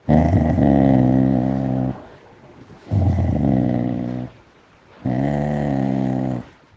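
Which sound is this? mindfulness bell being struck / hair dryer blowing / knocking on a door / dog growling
dog growling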